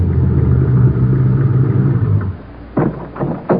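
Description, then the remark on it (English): A car engine rumbles steadily as the car pulls through a gate, heads toward a hangar and stops, its low drone holding for a couple of seconds before cutting off, followed by a few short, sharp knocks in the quiet. “The car pulls through the gate and heads toward the hangar.”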